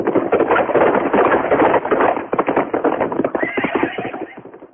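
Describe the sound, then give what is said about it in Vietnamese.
Hooves pound in a rapid, continuous gallop, loud, with horses neighing over the drumming beat; no one speaks. Three riders on nine horses, six led along as spare mounts, race eastward. “Triệu Mẫn, Trương Du Kỵ và Tiểu Chiêu, 3 người cưỡi 3 con ngựa, còn 6 con kia dẫn theo để thay đổi, phóng gấp về hướng đông.”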